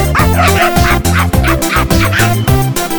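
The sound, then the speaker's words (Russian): A rapid string of barks and yips from a small, fluffy dog, loud, repeating in a steady rhythm over a continuous tonal, music-like backing with no talking. “Девушка, посмотрите, какая у меня мохнатенькая собачка.”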